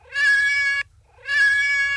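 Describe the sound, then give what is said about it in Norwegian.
A cat gives two long, plaintive meows in succession, each drawn out and steady and loud, separated by a brief pause, with no talking. “Mjau, mjau. Oj, det var men det trist väldigt mjau.”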